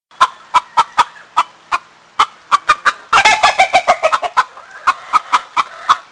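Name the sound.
chickens clucking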